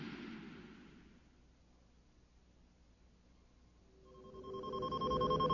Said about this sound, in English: The Millennium Falcon's console gave a final proximity beep, jolting Han Solo out of a light doze.